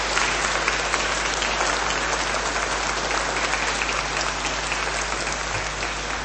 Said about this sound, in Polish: Ksiądz biskup będzie przewodniczył naszej mszy świętej, a po mszy świętej wraz z wami poprowadzi koncert. Brawa także dla księdza biskupa Antoniego.